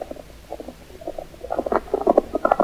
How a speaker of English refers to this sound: Me hear hoofbeats coming down other side stream. I don't hear anything. Perhaps you... Yes, I hear them now. Sounds like one horse traveling fast.